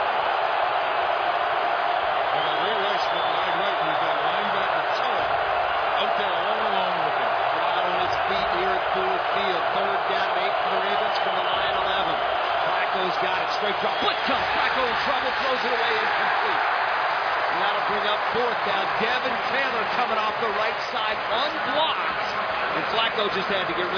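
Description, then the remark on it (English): A loud stadium crowd roars without letup at a Ravens–Lions football game as the Ravens face third and 8 at the Detroit 11, a dense, steady wall of cheering that swells slightly in the middle and holds at full volume throughout. “Is that crowd loud or what?”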